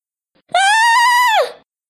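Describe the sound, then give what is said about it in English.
A cartoon jellyfish gives a single loud, high-pitched scream, held steady for about a second before sliding down and cutting off. It is shrill, with a bleating edge and no talking around it. “The jellyfish screams even louder.”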